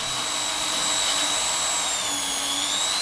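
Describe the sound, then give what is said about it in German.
A steady, loud motorized whine of an immersion blender pureeing mussels into a mussel smoothie for analysis at the Institute for Toxicology and Pharmacology runs unbroken for the whole stretch, with high tonal hums sliding slightly in pitch and no voices. “Mit einem Pürierstab werden die Muscheln zerkleinert und anschließend aufwendig gereinigt.”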